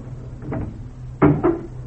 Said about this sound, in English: now the front door is unlocking.